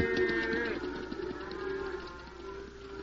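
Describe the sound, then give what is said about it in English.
A cow moos in a long, low, drawn-out call that holds steady for a few seconds, fairly loud, with faint outdoor background noise and no talking. “Watch the cow.”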